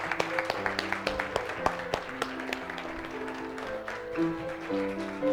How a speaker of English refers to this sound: And everybody said, let's give them one more round of applause as they make their way back to their seats. Thank you, gentlemen.